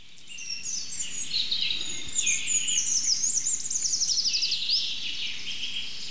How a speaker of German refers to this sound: Jetzt fängt der Buchfink wieder an. Das ist der neue.